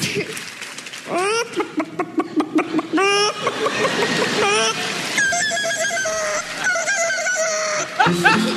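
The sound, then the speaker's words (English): An 11-year-old girl imitates a rooster crowing, producing a run of loud, strained cock-a-doodle-doo calls with rising and falling pitch, clear, repeated several times without pause. “rooster.”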